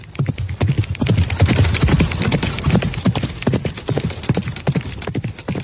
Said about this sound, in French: Au même instant, les voisins voient un cheval surgir dans la rue et partir au galop.